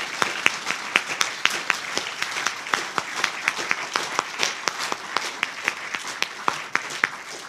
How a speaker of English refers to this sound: Let's give them one more round of applause for the great job that they did.